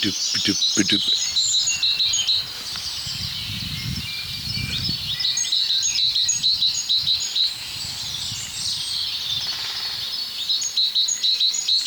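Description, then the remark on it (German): A great tit sings outdoors, repeating short, bright two-note phrases, with other birdsong mixed in and a low rumbling background throughout. “Dahinter die Kohlmeise.”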